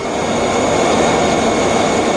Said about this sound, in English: It's an unmanned warplane developed by British Aerospace Engineering Systems, designed to carry a variety of weapons and use stealth technology. Unmanned. Flew for the first time in 2013. Here's a little sound of that in flight.